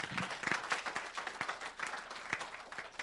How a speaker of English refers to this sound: Clap for the Lord Jesus.